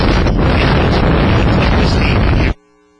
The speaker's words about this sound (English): And I know it's windy, and I did that partly to give you an indication of how windy it is here at Ellendale, and not a lot of protection around the field.